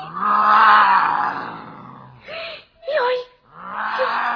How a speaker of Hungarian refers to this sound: Jaj, mi volt ez? A tigris közbe ordított, úgy látszik, ő is unja a hosszú szónoklatokat. Ó, a tigris, most már én is látom.